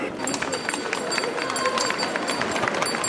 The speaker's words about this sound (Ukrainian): Жанна Боспічук починає свій репортаж зі звуків дзвоника.